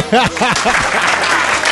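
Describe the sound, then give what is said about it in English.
Loud audience applause for Dan Bidondi, a journalist for InfoWars: a dense, steady clatter of clapping, with several rising-and-falling whoops and cheers in the first second before the clapping carries on alone. “Yeah, a big round of applause for Dan Bidondi.”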